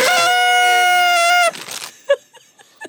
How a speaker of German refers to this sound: Ja, komm, wir tröten mal.